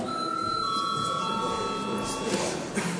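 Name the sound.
chamber bell ringing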